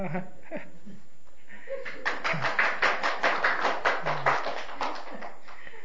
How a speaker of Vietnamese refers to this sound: Quý vị không tin quý vị vỗ tay đi.